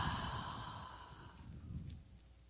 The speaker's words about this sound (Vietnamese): Quý vị hít sâu vô một cái. Thở ra.